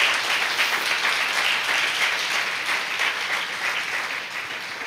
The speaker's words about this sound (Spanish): ¿Qué le parece si les damos un aplauso a todas estas madres?